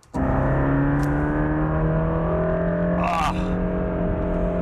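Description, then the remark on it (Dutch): The flat-plane crankshaft V8 engine of a Mercedes-AMG GT Black Series tuned by Absolute Motors starts abruptly and holds a loud, steady, throaty drone with strong harmonics, briefly rising in pitch as it revs. No one speaks. “heeft geen enkel verkeersbord gezien toen hij met de Mercedes-AMG GT Black Series van Tuner Absolute Motors op pad ging.”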